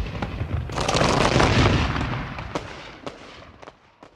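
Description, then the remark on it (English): A loud explosion blast roars up and rumbles for a couple of seconds, then crackles away with scattered sharp pops and debris-like snaps as it fades. “And those of them that aren't barbecued like a side of beef will feel their lungs burst like balloons as the fire eats up the air and their dream of conquest blows apart in the searing blast.”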